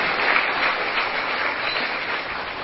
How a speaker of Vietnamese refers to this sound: Các cháu có thích vậy không? Nếu thích thì hãy cho tràng pháo tay để hoan nghênh chính mình.